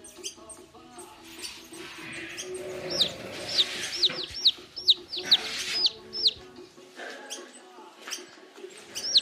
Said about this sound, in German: Warte mal. Hier ist ein kleiner Vogel aus dem Nest.